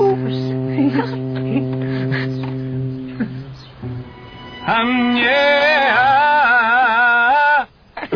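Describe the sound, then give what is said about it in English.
A dog named Jackal whimpers and yips in loud, wavering, high-pitched whines for a few seconds, following a steady low humming drone that fades out beforehand. “Is your dog dead? Not dead.”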